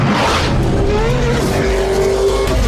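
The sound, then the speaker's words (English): The 603-horsepower V8 bi-turbo engine of a Mercedes-AMG E63 luxury sedan roars loudly and steadily, its pitch climbing as it accelerates, with a brief tire squeal mixed into the dense mechanical noise. No one speaks. “when you drop a 603 horsepower V8 bi-turbo engine in one of Mercedes-Benz's finest luxury sedans.”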